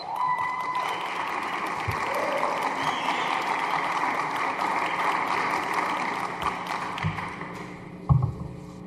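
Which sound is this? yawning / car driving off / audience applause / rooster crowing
audience applause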